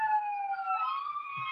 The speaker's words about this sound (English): Sorry, I have a siren going off.